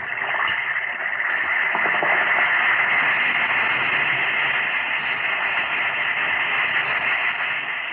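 A steady, hissing fizz of an Alka-Seltzer tablet dissolving in water, a dense crackle of tiny bubbles that holds at an even, fairly loud level for several seconds with no voices, opening the Quiz Kids radio show on NBC, first aired October 3, 1948.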